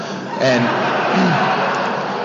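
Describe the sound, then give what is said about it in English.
A crowd claps and cheers loudly for those marking a particular sober year, a dense wash of applause with a few voices whooping and shouting above it, steady throughout. “If you're new tonight, when people say they're a particular sober year, generally the people in that class clap.”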